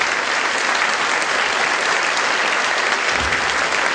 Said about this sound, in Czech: Užij si potlesk. Užij si. Patří to tobě.